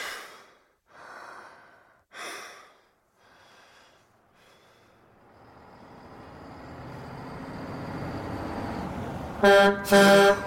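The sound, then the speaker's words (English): Heavy snoring breaths of a man dozing by the roadside give way to a red semi-trailer truck's rumbling engine drawing closer, then two loud truck horn blasts honk at the very end as it stops before a fallen log blocking both lanes. “A honking horn startles Walter awake.”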